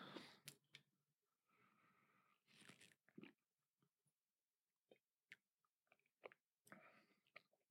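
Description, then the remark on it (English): Drinking noises as someone gulps water: a couple of wet gulps and swallows with small mouth clicks and cup handling, scattered over several seconds with quiet gaps, no talking. “I'm going to take a sip of water here.”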